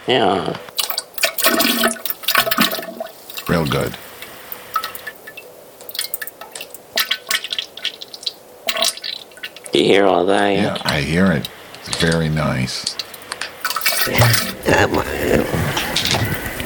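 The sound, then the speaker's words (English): Water rushes and splashes steadily like a small waterfall, a continuous hiss running throughout while two people talk over it in short exchanges. “Oh, there it is. 2012 Waterfall.”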